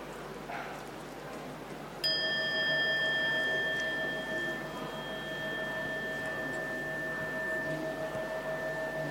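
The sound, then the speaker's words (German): A single gong bell is struck once more, giving a sudden bright attack and then a long, steady ring of several high tones that hangs on over a soft background hiss until the end. “Ich gong nochmal die Glocke.”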